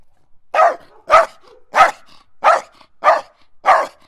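A dog barks six times in a steady, evenly spaced rhythm, each bark loud and sharp, with brief silence between them and no talking.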